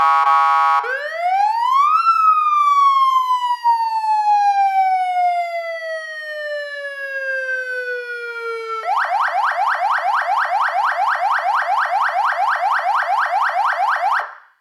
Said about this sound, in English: Siren.